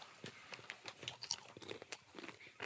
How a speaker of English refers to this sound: Not y'all crunching. It's some ASMR shit, ain't it?